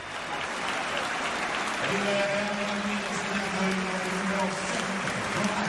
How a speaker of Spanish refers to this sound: Esta es la ovación que le tributó la afición de la Juventus a Cristiano después del gol.